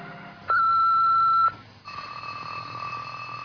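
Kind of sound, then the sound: household object, alarm clock ringing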